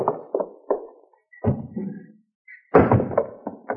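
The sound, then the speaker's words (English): A side door opens and shuts as Hopalong Cassidy sneaks in: a few light knocks and clunks, a faint creak, then two heavier wooden thuds with short rattling decays, and no voices. “And he comes sneaking in my side door.”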